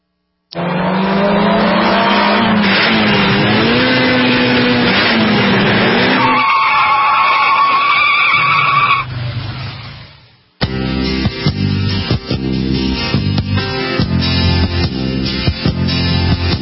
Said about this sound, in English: Sound of the burning rubber or the sliding rubber. Oh, yeah. Never want to slide them unless you got some drift tires on or, you know, well, I guess it is kind of fun to drift your car every once in a while with that emergency brake, huh?